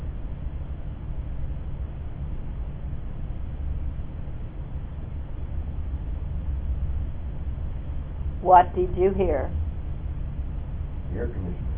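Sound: air conditioner running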